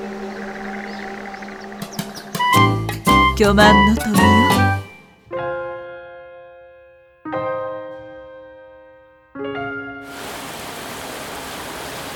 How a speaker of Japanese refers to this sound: わあ、急に雨降ってきた。なになに、ゲリラ豪雨だよ。はあ、びしょ濡れだよ。